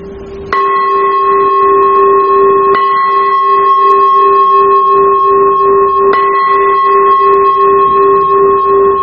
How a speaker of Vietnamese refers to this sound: Và nếu mà là chuông tụng kinh, vô chuông mỏ để vô thời kinh thì tiếng chuông sẽ là như thế này.